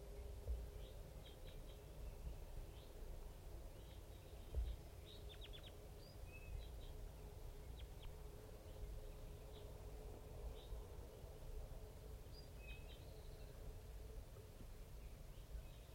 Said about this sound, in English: It's 7:30 a.m. and it's real foggy up on the hilltop here. And 5-3 is calling. There's about five crossbills and a little flock of big guys just around here somewhere.